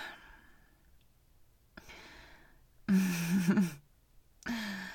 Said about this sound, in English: That gasp drew more than a few glances. Best try to keep yourself under control.